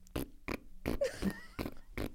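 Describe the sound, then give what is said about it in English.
Someone blows about five short, buzzy fart noises with their mouth in a steady rhythm, fairly loud, with a brief squeaky whine in the middle. “Farted noises?”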